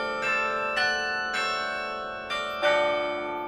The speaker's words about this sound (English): Delaware entrepreneur Bill Church gave the bells to the school nearly 5 years ago.